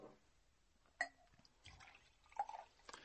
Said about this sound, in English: Would you pour me a glass of water? There's a carafe here on the table.